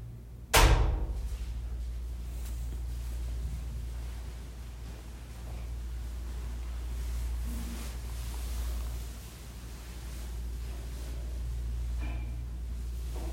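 A single sharp knock or thud against a door, from people starting to knock, sounds near the start, followed by a long stretch of steady low background hum with no voices.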